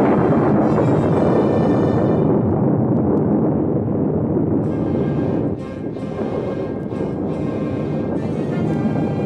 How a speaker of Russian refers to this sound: В густом облаке дыма и огня, петляя, на землю падал горящий самолет. В следующее мгновение взрыв чудовищной силы потряс землю.